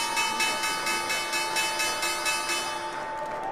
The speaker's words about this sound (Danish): Sådan her lød det, da New York Stock Exchange ringede med klokken og lukkede markedet i går.